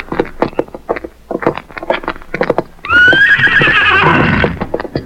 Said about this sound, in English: Let's get to our horses.